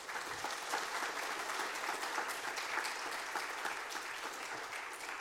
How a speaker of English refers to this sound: Well done. Now, that deserves a round of applause, all right?